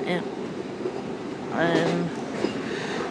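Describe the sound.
Steady rumble inside a moving train carriage travelling to the Visibility organisation for the blind in Glasgow, with a continuous low hum and rattle, plus harmonic tonal whines rising briefly in the middle, with faint voices murmuring in the background.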